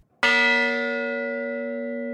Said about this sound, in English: The tolling of a bell recovered from the wreckage of the USS Arizona honored the more than 2,400 people killed in the 1941 attack.